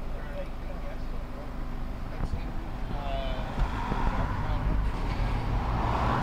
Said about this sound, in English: Hang on, there's a truck. Oh, this way, and there's a bus after that. It's a kind of a popular area. So as soon as that passes, we'll be able to read that sign.